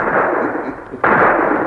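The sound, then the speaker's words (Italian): Hunters firing punt guns at ducks over a marsh, hunting from boats: a dense, rumbling wash of gunfire dips briefly, then a sharp, loud report bursts in and the heavy booming roar carries on. No voices. “Senti! Fanno buona caccia!”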